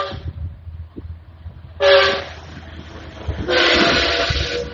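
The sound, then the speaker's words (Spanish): A train rumbles past during a concert with a low, steady roar, and two loud horn blasts sound, the first shorter with clear tonal harmonics, the second longer and broader, with no talking. “En este concierto va pasando el tren en el lugar donde nos encontramos.”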